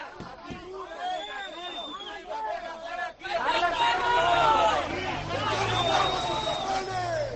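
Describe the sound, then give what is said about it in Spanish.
Outside Levante's stadium, Levante supporters shout and cheer in a loud, continuous roar of overlapping voices at the arrival of two buses from Villarreal, swelling after a brief dip, with a low engine rumble underneath. “Es el sonido en directo de la llegada de los dos autocares desde Villarreal. Y estos son los gritos de los seguidores.”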